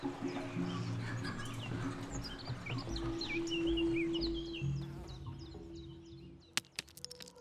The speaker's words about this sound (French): Le caquettement des poules de Nono.